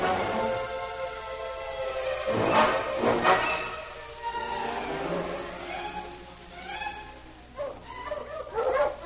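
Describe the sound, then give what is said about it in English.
A dog named King barks and yips in a run of sharp calls in the snow, with drawn-out whining tones between the louder bursts and no voices. “Listen, that sounds like King now. It is King. We're coming, boy.”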